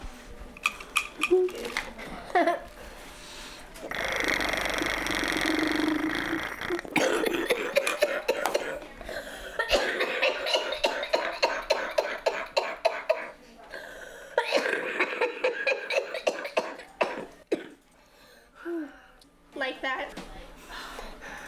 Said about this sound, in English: This is a flutter. And I blow into it like this. And it like jiggles my lungs and makes me cough.